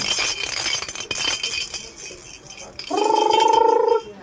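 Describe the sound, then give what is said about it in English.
Baby noisemakers are shaken for a crying two-month-old baby, making a busy, clinking rattle for a few seconds, followed by a brief, steady squeaky tone lasting about a second. “So out come the noisemakers.”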